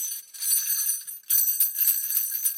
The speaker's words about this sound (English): There you go. Sleigh bells.